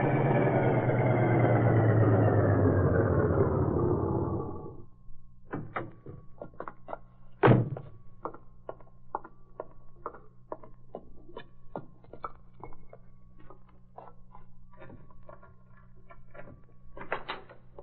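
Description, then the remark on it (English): A door swings open and shuts with one solid thump as someone comes in, after a few seconds of rushing noise. Scattered small clicks and knocks follow over a steady low hum, with no one talking. “I was just about to open the door when you came in.”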